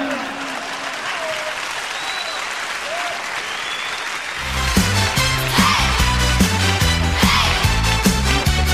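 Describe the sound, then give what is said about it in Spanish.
An audience claps steadily for a singer after his song, in a dense, noisy wash of applause, then music enters halfway through and plays louder over the fading clapping. “Un aplauso grande de aquí, de toda la gente,”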